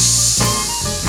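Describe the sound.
A voice makes a long, steady "sss" hiss like a snake, the sound of the letter S, loud and held without a break for about a second with no words spoken.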